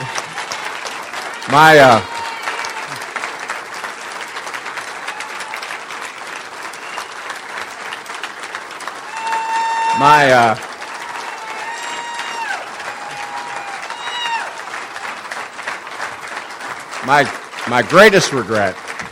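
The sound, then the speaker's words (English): Sustained audience applause at a campaign speech, a dense steady clatter of clapping with a few louder swells and shouts or whoops rising above it. “you can applaud. You can applaud.”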